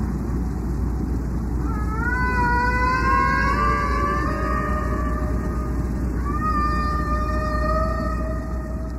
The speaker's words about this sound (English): He threaded it across the heads of his recorder. He had some headphones. He put them on my head. And then, in order to be heard over the roaring of this generator, he said, "I think these are whales," very loudly.